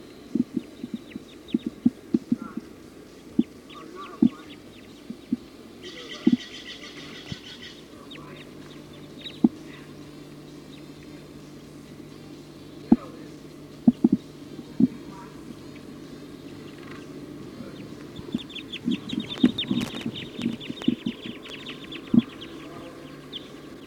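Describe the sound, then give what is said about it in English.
A flock of about 20 Type 2 birds perched at the top of a pine tree calls in scattered, high chirps, with a dense burst early and a busier patch near the end, over low rumble and sharp irregular knocks and clicks. “According to the flock is calling now.”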